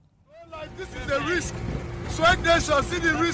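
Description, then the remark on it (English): A motorboat travels fast across water with a steady engine drone and rushing wind and spray, while people talk loudly over the noise. “This is from a video recorded by the Nollywood actor Junior Pope the day before he died. He's on a boat, travelling fast”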